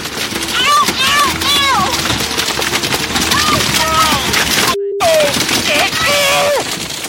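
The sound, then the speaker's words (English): On the Wabash River, over a steady motorboat engine drone, boaters shout and cry out in alarm while rapid, irregular thumps and splashes of Asian carp jumping and hitting the boat break through, with a brief cut partway. “Here's a little sound of a motorboat encountering a big bunch of Asian carp.”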